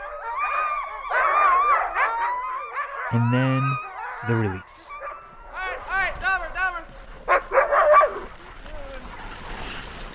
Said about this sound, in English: The dogs get so excited before their runs. They're hooked up to the guy line, leaping in the air, banging on their harness. It's like this chaotic symphony rising up to a crescendo.